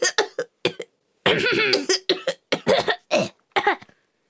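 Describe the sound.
A person coughs repeatedly in close, harsh bursts: a few short coughs, then a longer rough fit, followed by several more spaced coughs, with no talking.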